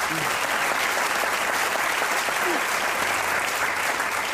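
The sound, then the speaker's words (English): A room full of people claps steadily for a panel, a dense, even wash of applause that holds at the same strong level throughout with no voices standing out. “So can you just give the panel a round of applause?”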